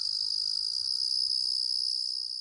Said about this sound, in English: Ah, the sounds of summer, crickets chirping outside your window. But which cricket is it? It doesn't sound like the eastern striped cricket. It's more like the sphagnum ground cricket.